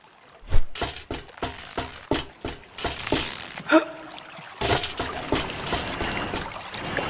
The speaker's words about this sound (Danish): Der er noget, der bobler her. Det er sådan en flaske med noget.